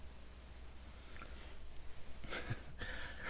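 cough

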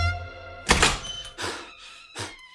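door being opened

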